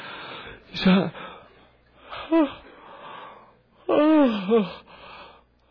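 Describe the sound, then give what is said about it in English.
Three drawn-out, breathy yawns, each swelling into a voiced, sliding groan before trailing off, separated by short quiet pauses, with no words spoken. “You know, yawns are contagious.”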